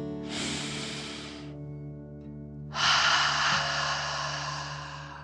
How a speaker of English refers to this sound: Before we begin our story, let's relax by taking 3 deep dragon breaths. Breathe in through your nose, filling up your belly, and then out through your mouth, pretending you are breathing fire. Ready? Deep breath. In and out.